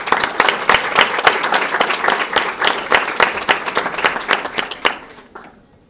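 An audience applauds steadily to welcome a speaker, many hands clapping in a dense, bright patter that holds for about five seconds before quickly dying away. No one speaks over it.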